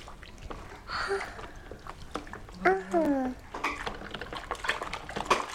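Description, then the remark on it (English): Water splashes and sloshes as a bowl with chocolate on it is washed and water is squeezed in, with irregular clinks and drips throughout, while voices murmur briefly over the running-water clatter. “I'm going to squeeze the water in.”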